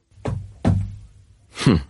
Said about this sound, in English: Bang my shoes together, is it? Like Dorothy?